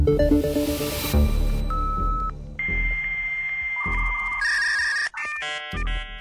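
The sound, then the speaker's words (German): Dial-up modem handshake: a dial tone and quick dialing beeps, then a steady carrier whistle giving way to harsh, buzzing screeches and warbling bursts of noise, loud, with no talking. “Das Modem ist zwar Geschichte”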